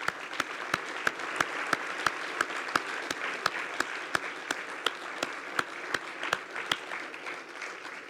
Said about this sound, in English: You've given your lives to your children, and you should be applauded for it. And I'd like to do that once again.